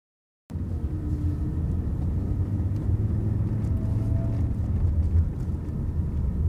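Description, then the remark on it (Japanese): A steady engine rumble starts abruptly and continues without a break, the deep drone of a car rolling along at low speed through an indoor parking garage at a home improvement store, with faint higher whines drifting in over it. “エンディングを撮り終わった後に今駐車場ですね、ホームセンターについて駐車場、屋内駐車場ですねに向けて、ユドロを走ってるところですね。”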